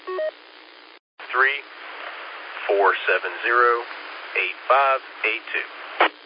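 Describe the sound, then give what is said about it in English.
A single short cell phone keypad dialing tone beeps at the start, followed after a brief pause by a voice speaking over a thin, band-limited phone line. “Yeah, let me actually get it on my cell phone. I was actually trying it on the home phone. I already had it punched in”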